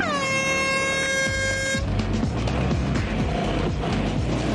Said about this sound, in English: Teams, on the sound of the hooter, prepare to launch your aquatic scooters!